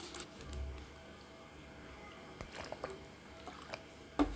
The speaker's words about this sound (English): Oh, that was me drinking water. My goodness. My throat was so freaking dry.